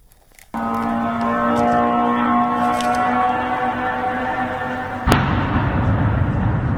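At night over the town of Bila Tserkva, 100 km south of Kyiv, Ukraine, a steady, droning engine whine of Iranian-made suicide drones hangs overhead for several seconds, then a sudden loud explosion cuts in near the end, followed by a rough rumbling roar; at least six such drones attacked.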